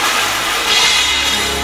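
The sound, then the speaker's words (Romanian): A loud, bright crash of breaking glass, with a dense rush of shattering and tinkling shards that holds steady for over a second, with no voices. “Comotul de sticlă spartă.”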